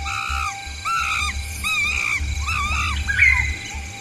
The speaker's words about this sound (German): Wer an den Regenwald denkt, hat ihn gleich im Ohr, den typischen Sound der grünen Hölle. Kreischende Affen, schreiende Papageien und das Brüllen gefährlicher Tiere.